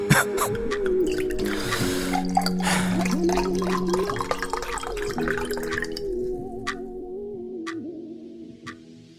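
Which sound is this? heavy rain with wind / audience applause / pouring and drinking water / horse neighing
pouring and drinking water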